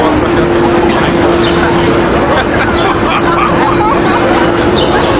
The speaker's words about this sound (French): Puis il y a un sound effect stock qu'on entend comme une espèce de foule, de monde qui jase. Puis c'est clairement pas le monde qu'on entend, puis ils sont genre 8.